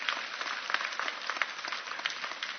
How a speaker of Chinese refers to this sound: 我再一次给你掌声，你们听祈祷的神。